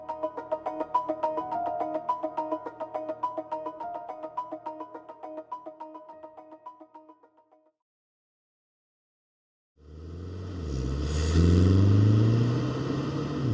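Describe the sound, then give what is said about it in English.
Music with a steady beat plays, then after a brief silence a petrol car engine roars, revving loudly with a rising whine before easing slightly. “Soundtrack to motoring used to be created by the vroom of the petrol engine and the blaring car radio as you were driving down the road.”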